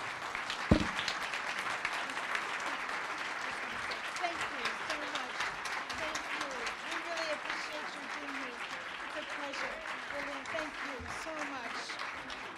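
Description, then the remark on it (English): Sustained, loud applause from a large crowd giving a standing ovation to a leader on women and girls' issues, dense and steady for the whole stretch, with faint voices murmuring beneath the clapping. “So please stand, give her a round of applause.”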